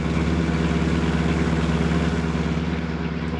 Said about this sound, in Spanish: Descendiendo la empinada calle, gira el auto hacia la derecha y aminora la marcha.